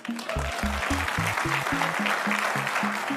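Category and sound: crowd, enthusiastic applause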